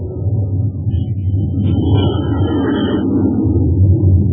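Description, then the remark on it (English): A Scorpion jet fighter roars loudly as it takes off, a dense, steady low rumble with a thin high-pitched engine whine rising and fading midway through. The 20-ton aircraft is 53 feet long, has a 56-foot wingspan and rocket pods on its wingtips, and flies at 600 miles per hour. “The Scorpion kicks to the air like magic.”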